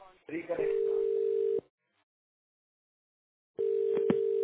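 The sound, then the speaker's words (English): A steady electronic phone ring tone from a participant's line on a conference call sounds in two bursts over a narrowband line, separated by about two seconds of silence, with faint background voices under the first burst. “There is a ringing, that ring coming in.”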